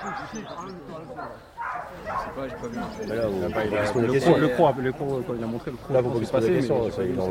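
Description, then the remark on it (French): A dog barks repeatedly and excitedly during bite training, its loud yelping barks mixed with people's voices and commotion in the background. “le chien il vient pour reprendre son boudin et puis il y a le croc”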